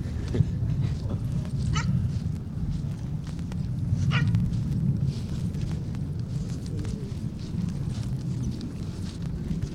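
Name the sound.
dogs barking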